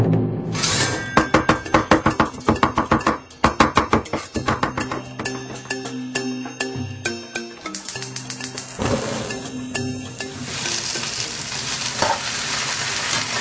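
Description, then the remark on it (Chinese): A quick run of sharp, rhythmic knife strikes on a cutting board as eggplant is cut for braised eggplant on a cooking show, followed by steady kitchen sizzling and clatter with faint background music. “哥哥，红烧茄子擦好了，要开饭喽！”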